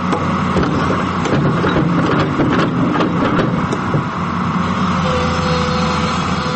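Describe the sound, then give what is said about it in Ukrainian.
A heavy diesel excavator engine rumbles steadily and loudly in autumn, with clanking and scraping bursts over the continuous drone as it scoops loose soil to form a rectangular pit at a training cemetery in Münnerstadt, Germany. “Екскаватор старанно вичерпує пухку землю, формуючи прямокутний простір.”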